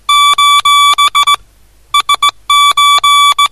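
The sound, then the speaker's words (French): A steady, high-pitched electronic tone keys on and off in Morse code, mixing long dashes and short dots in uneven groups with brief pauses between them, loud and alone. “Mais le Ceylan est resté en vue, hein, ils étaient en vue l'un de l'autre, ils correspondaient, mais à l'époque, c'était pas par la parole, hein, c'est venu cette même année 1920, c'était en morse.”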